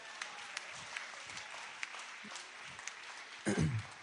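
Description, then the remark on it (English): A crowd applauds steadily, many hands clapping in a dense, even patter of moderate loudness. Near the end a short, louder voice-like cry rises over the clapping. “Oh, give them a round of applause.”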